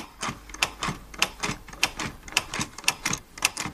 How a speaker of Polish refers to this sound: To jaka to jest maszyna? To nie wiem, to jest maleńka. Maszyna do pisania alfabetem Braille'a. I później się czyta paluszkami, tak? To, co napiszesz.